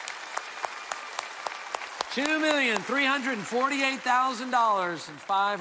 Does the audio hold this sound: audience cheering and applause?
yes